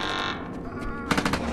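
Rapid blaster fire crackles in a tight burst of sharp shots over a dense, rumbling din, the shots cutting across a gallery and hitting an airlock, with an explosive roar as an explosion tears apart parts of the inner hull and showers metal fragments; no one speaks.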